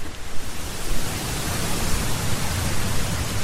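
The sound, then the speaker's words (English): Water running along a path, like a little stream being waded through, makes a steady, continuous rushing hiss that fills the whole clip at an even, fairly loud level, with slight low gurgling fluctuations and no voices. “And there's water running on the path. We're basically wading through, almost through a little stream here.”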